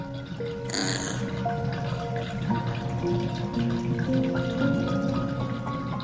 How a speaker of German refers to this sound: Jetzt lässt du das Wasser aus der Wanne und spülst euch beide noch einmal ab.